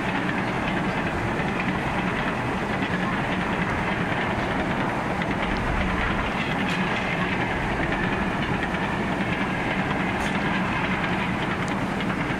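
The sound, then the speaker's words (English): A train rumbles past close by on nearby train tracks, a loud, steady roar of wheels and rail noise with a faint rhythmic clatter lasting throughout, with no pauses or breaks. “In our remote studio, I think we're too close to the train tracks”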